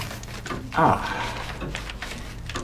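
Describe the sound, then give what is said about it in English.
A locked desk drawer holding a manuscript is unlocked and slides open with one brief, squeaky scrape that rises clearly above a quiet, hissy background, then fades back to low murmur. “I have in my desk here. Excuse me. Locked in a drawer.”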